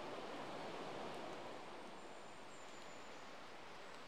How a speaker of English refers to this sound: We've made our way through the two pillared stone gateposts, and we're cutting our way deeper and deeper into Hackfall Wood. The river's still flowing away on our left-hand side, but it's a bit further down now